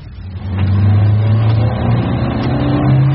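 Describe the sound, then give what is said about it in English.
A car driven by a police detective on the way to a murder case revs hard and accelerates, a loud, steady low growl that rises slightly in pitch as the vehicle speeds up, with no voices. “Take it easy, son. Slow down.”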